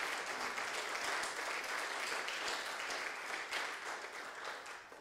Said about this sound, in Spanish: ¿Por qué no le dan una ofrenda de palmas al Señor en acción de gracias?